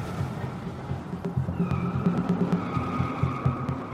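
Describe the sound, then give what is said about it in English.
The engine of a brand new American car rumbles steadily as it takes a turn on the road, its tires beginning a sustained, whining squeal partway through, the screech of wheels slipping on pavement continuing over the motor noise until the end. “For a moment, you feel the wheels slip, the car no longer in your control, but then it comes back again.”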